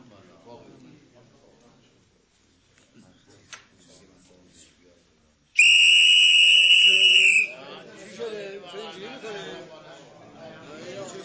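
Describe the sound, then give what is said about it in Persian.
A single loud, shrill blast of a borrowed whistle lasting about two seconds in a club cuts in sharply after quiet talk, followed by a murmur of several voices speaking. “ببخشید سوتتونم لطفاً.”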